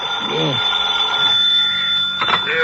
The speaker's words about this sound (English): Next morning, the phone awakens you.